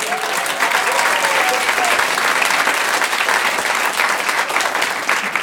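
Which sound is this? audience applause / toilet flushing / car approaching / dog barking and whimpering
audience applause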